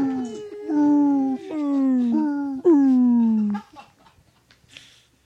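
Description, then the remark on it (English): A voice imitates whale song with a string of about four long, loud, moaning wails that slide downward in pitch, before fading into quiet shuffling. “There's just whale sounds coming out.”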